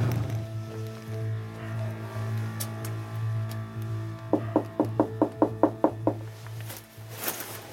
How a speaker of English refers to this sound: We're gonna go to his front door, give it a knock, and see if he'll answer a couple of questions.